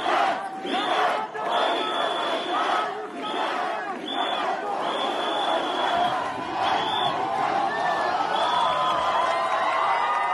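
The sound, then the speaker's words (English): A large protest crowd near the campus of Istanbul University in Istanbul, Turkey, roars and cheers steadily as prosecutors push through a line of riot police, with repeated long, shrill whistle blasts cutting through the din again and again. The noise stays loud and dense throughout, without pause. “Near the campus of Istanbul University, prosecutors pushed through a line of riot police to cheers and whistles.”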